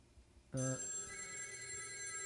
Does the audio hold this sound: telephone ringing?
yes